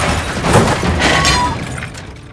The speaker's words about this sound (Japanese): 視界から一旦消えた SUV は左に右に蛇行し、そのまま鼓門の一方の柱に大きな音を立てて衝突した。